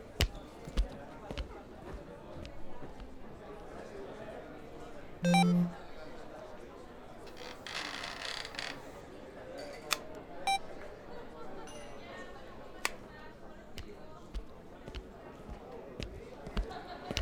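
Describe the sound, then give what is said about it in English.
A phone notification goes off once, a short, low buzzing tone that stands out loudly over a busy, murmuring background with scattered clicks and knocks. “My phone went off. Maybe it was a text.”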